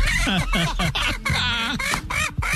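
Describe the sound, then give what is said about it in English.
A flock of chickens clucking and squawking all at once, a loud, busy chorus of overlapping calls with no pauses, without any voices. “This is the 2020 laugh track.”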